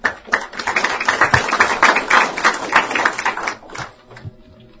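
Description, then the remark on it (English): An audience breaks into steady applause welcoming a speaker on transportation finance, a dense patter of many hands clapping for about four seconds before thinning out and fading near the end. “Let's welcome Lowell Clary.”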